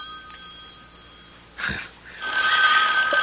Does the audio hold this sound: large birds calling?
no